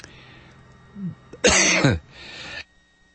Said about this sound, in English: excuse me for coughing in your ear there